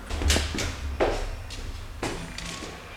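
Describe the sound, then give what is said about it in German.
A door is opened, with a series of short clunks and latch rattles spaced through the moment over a low, steady background rumble. “Sie gingen langsam bis zum Ende, wo sie wieder eine Tür erreichten.”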